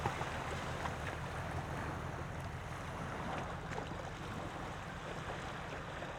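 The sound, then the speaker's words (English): Steady wind rushes over a continuous wash of surf on Kitts Beach on a windy, sunny day, April 15th, 2022: a broad, even roar with low gusty rumble and no voices. “Right now I'm sitting on Kitts Beach on a kind of a windy, sunny day, April 15th, 2022.”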